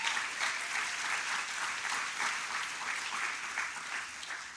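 An audience at Bethel claps steadily for a missionary who has been spending time in Haiti, a dense, sustained round of applause from many hands at moderate loudness for several seconds, with no voices rising above it.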